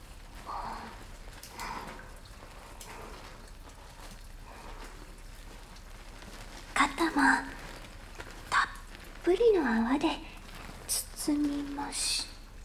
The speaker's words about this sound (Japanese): 背中にも丁寧に泡をなじませていきます。